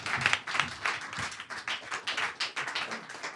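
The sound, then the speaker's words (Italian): A crowd applauds steadily, many hands clapping in a dense, continuous patter that stays fairly even in loudness throughout, with no voices standing out. “Fate un applauso intanto a Radio Popolare che ci ospita per questa serata.”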